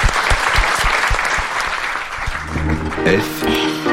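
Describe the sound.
An audience claps steadily, a dense rolling patter of many hands, while a voice starts to speak partway through as the applause continues underneath.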